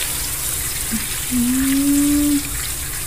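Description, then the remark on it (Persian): Water runs with a steady hiss as flower pots are watered, and for about a second a pouring tone rises in pitch as a pot fills; fairly loud, with no talking. “پای این گولا چرا انقدر خوش شده؟ الان بهتون آب میزم.”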